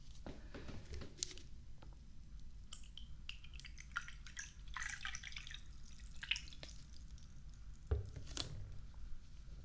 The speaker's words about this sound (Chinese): 要不你进来坐吗？喝杯水再走。进来吧，随便坐，我去给你倒水。